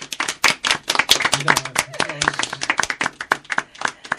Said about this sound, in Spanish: Efectivamente, un aplauso.